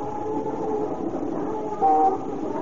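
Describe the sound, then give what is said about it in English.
Busy city traffic with a streetcar in Tokyo, a steady rumbling roar of motors and rails, broken near the end by a short, loud, steady horn tone. No one speaks. “Even in the sounds, the wild cacophony of horns and motors and the clanging streetcar bells, interspersed with the clop of horses' hooves or the creaky rumble of an ox-drawn cart.”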